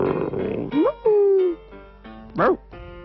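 A dog gives a few short, high yelps and a drawn-out whine, with brief pauses between them and a low murmur of background sound at the start.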